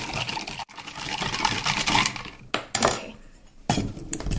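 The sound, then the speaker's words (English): A pink cocktail mixture is stirred with ice in a cocktail shaker to get it cold, a steady run of bright clinks and rattles against glass, pausing briefly before resuming, with no one speaking. “Okay, just the usual stir to get it nice and cold.”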